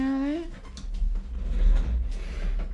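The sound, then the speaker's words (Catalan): Chairs being shifted around indoors: a short squeaky scrape at first, then a stretch of low scuffing, bumps and rumbling as they drag across the floor. “Més cadires movent-se.”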